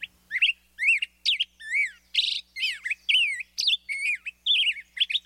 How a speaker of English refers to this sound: And now, the up-tempo performance of the black-headed grosbeak. Listen for the rollicking song of the black-headed grosbeak this summer, especially in streamside woods. Its singer could have come all the way from southern Mexico.